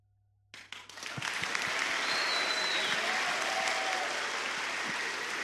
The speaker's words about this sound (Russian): Спасибо большое, ребята, что пришли. Провожаем нашего гостя бурными аплодисментами.